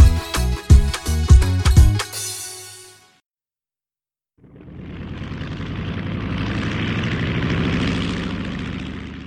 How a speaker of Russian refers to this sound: Смотрите, в небе самолет, а в самолете там пилот. Штурвалом ловко управляет и между облаков летает.